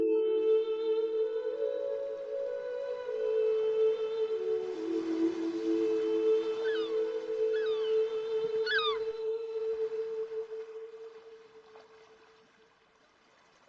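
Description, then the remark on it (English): A few short, rising seagull cries sound in quick succession midway, over a steady low humming drone that runs throughout and fades toward the end. The birds call by the sea at a beach. “Of the birds and seagulls.”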